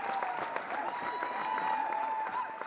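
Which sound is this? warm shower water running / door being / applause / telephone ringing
applause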